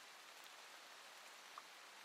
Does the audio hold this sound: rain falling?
yes